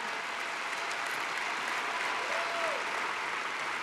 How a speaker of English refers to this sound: Let's give a big round of applause to Patty.